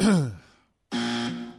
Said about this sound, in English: I thought they were getting ready to breathe on the phone. Clear his throat and everything, all ready to go. Like a creepy caller or something.